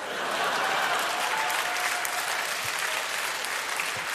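A crowd claps steadily, a dense, even patter of many hands that holds at a fairly loud level for the whole stretch with no voices standing out.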